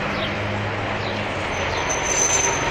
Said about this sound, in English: Ah, yes. Here's the bus.